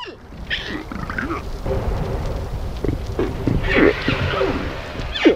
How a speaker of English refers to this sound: These recorders had suction cups that let researchers just stick them on to the baby's skin. It can stay there for about a day, and then it falls off, and then we can recollect it. And what they captured was the babbling of these baby whales.